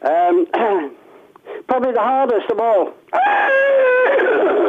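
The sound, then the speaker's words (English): Over a tinny, phone-like line, a man speaks briefly, then a voice imitates a horse's neigh with a wavering, quavering whinny that ends in a long, drawn-out call. “Horse sounds like this.”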